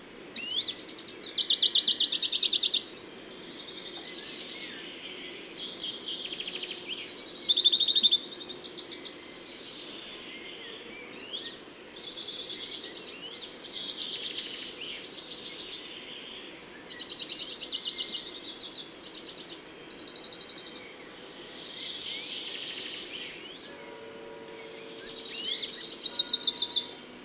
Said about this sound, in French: Alors, je vais essayer de continuer ce petit safari sonore matinal, très très matinal, parce qu'il est maintenant, il est à peine 5h30 du matin, et voir un peu dans ce milieu naturel très beau, très joli, les autres oiseaux qui sont présents.